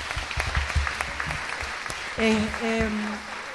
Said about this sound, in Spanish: así que lo vamos a aplaudir bien fuerte, que es nuestra webmaster.